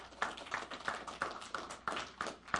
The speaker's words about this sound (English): Visitors, good to have you today. Let's give our visitors a round of applause.